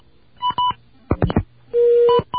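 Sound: telephone keypad dialing tones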